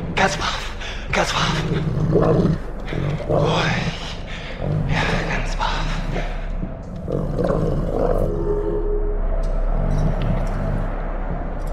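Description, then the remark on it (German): A dog growls low and rumbling, a steady throaty snarl that keeps going for several seconds with brief breaks, loud, with some noisy background texture. “Der Hund musterte ihn.”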